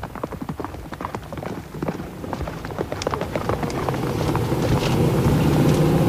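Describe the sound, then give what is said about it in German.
A stallion that has escaped from horse thieves gallops away with rapid, uneven hoofbeats clattering, while a steady rumbling noise swells underneath and grows louder toward the end, gradually masking the hooves. “Der Hengst ist ihnen durch die Lappen gegangen. Ja, er rast davon.”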